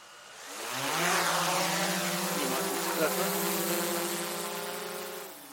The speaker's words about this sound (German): Ein Drohnenpilot ist auch dabei, der aus der Höhe fotografieren soll, wie weit die Farbe sich ausbreitet.